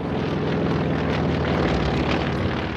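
propeller airplane flying

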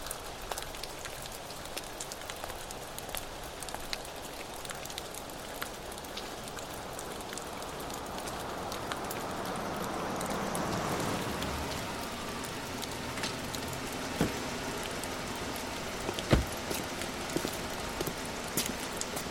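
heavy rain

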